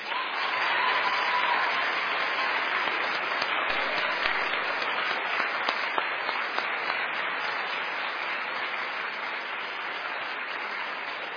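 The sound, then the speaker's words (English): A crowd applauds the production crew steadily, a dense wash of many hands clapping at once, sustained at an even level for about eleven seconds with no voices breaking through. “And, of course, they had many other people with them, but I think they deserve a round of applause.”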